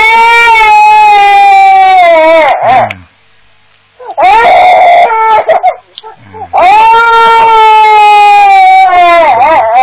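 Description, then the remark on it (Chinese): A baby cries loudly in long, strained wails, three sustained bursts separated by brief gasping pauses, with no other sounds around it. “你叫宝宝不要哭了啊！小宝宝不要哭了啊！”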